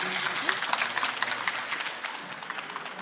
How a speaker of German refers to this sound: Und ich wünsche euch allen ganz viel Spaß und bitte jetzt um einen frenetischen Applaus für